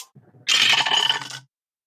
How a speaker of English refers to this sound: Guys, stop rolling so many dice.